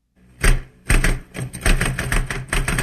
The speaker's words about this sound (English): There are so many found sounds in the Smithsonian archives, like this typewriter. This is not a music selection from the archives, but a documentation of office life.